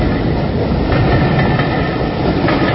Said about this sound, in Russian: Высунул голову, пытаясь разглядеть состав, но увидел лишь длинный выгнутый сегмент поезда, скользящий по рельсам, убегающий от зимы.